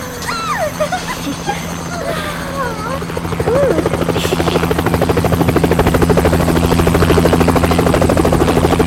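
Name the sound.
helicopter landing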